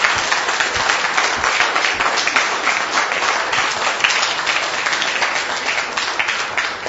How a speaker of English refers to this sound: Let's give the Lord a clap offering. Remember that you're clapping for the King of Kings. Is that how you're going to clap? Let's clap for the King of Kings.